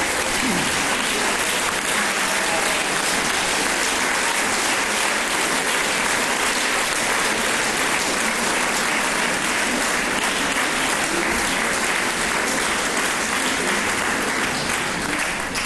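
Steady, dense applause from a large audience at a concert in Yekaterinburg, given for the performers' teacher, loud and continuous for the whole stretch with no voices on top.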